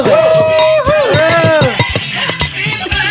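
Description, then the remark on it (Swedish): Several bright glass clinks ring out in quick, irregular succession, fairly loud, with voices talking and exclaiming underneath as glasses of bubbly are tapped together in a toast at a Christmas Eve 50th birthday celebration. “Skål, skål.”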